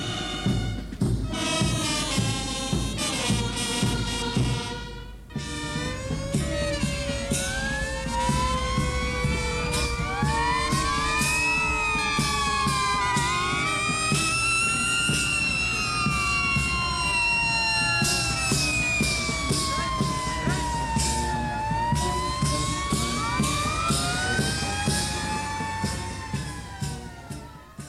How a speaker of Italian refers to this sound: Dovremmo attendere molto prima della conclusione, conclusione che avverrà con la sfilata dei vigili del fuoco a bordo dei loro ululanti mezzi.